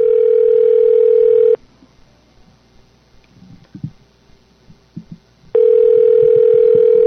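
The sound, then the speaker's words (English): A telephone line rings on a call placed by radio station KAPULP 104.7 FM in Watsonville, California: a loud, steady buzzing tone sounds for about a second and a half, then a quiet gap with faint clicks, and the same tone returns. No one speaks. “Let's see if we can get Kanoe Miller on the line.”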